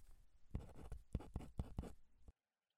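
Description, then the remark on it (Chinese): A pen scratches across paper in a quick series of strokes with short pauses between them, as someone keeps writing notes while listening. It stops abruptly after about two seconds, with no voices present. “艾辰的视线没有离开他，但手中的笔依然在记录。”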